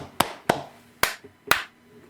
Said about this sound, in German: Mal schnell klatschen.